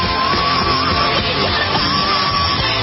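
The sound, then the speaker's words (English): A woman belts out a rock song at full volume, her strained, held notes riding over a dense, loud band mix that fills the whole stretch without pause. “She's got a great rock sound, though. Listen to that. Yes, she's trying too hard. Yelling, screaming.”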